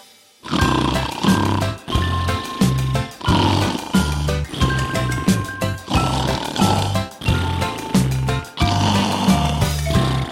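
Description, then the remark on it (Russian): Loud snoring of bears in their winter den repeats in a steady rhythm, each rasping, grunting snore rising and falling like a beat, about one per second, forming a song-like pattern with no talk. “Их песни называются храпесни. И кто хоть раз медвежью песнь услышит, замрет в восторге и почти не дышит.”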